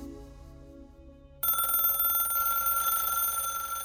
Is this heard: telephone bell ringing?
yes